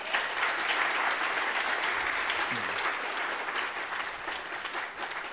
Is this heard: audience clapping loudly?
yes